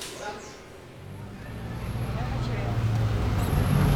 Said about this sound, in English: We get on a bus and cross the tunnel beneath the Christ the Redeemer rock to reach the upmarket neighborhoods on the coastline.